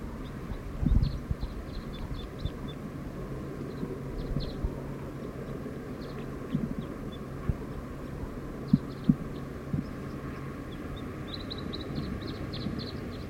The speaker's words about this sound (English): Song of a wild bird. Very soft.